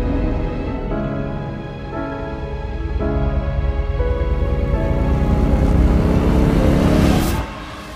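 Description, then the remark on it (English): A motorcycle engine revs hard through several stepped gear changes, growing louder as it approaches, then cuts off abruptly at the end. The motorcycle is driving directly at Simba and Mufasa in the film Black is King. “When we see one of the motorcycles driving directly at Simba and Mufasa, Mufasa pushes Simba out of the way and holds up his hand in an attempt to stop the motorcycle.”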